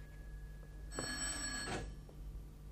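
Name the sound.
telephone bell ringing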